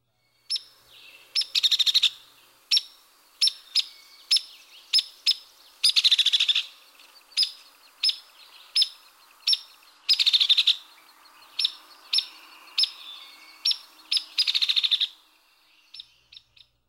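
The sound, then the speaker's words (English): Sharp, high peek calls from a hairy woodpecker repeat steadily, broken every few seconds by a fast, level-pitched rattle. The bird sounds clear, with no voices. “And here are the hairy's comparatively even-pitched rattle and sharp peak.”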